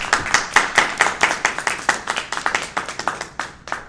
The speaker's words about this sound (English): I'm going to give you a round of applause there.